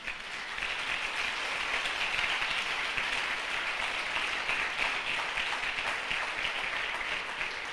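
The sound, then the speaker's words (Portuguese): An audience in a church applauds the Lord steadily for several seconds, a dense, even wash of many hands clapping at once, with no voices standing out above it. “Quem crê nisso, aplauda o Senhor.”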